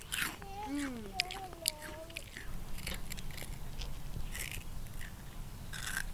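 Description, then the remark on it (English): Crunching as someone bites into a crisp fried dough snack, a less-sweet flour donut with flowers and orange, and keeps chewing, with repeated dry crackles throughout and a brief murmured voice early on. “It makes a really good sound on the microphone. I bet it's real crisp.”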